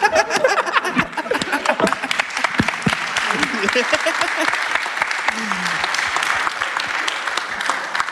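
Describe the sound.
An audience breaks into sustained applause, a dense, steady clatter of many clapping hands lasting several seconds, with a few voices murmuring and a brief low vocal sound underneath.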